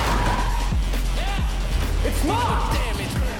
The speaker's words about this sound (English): The Mercedes is still driving through the garage.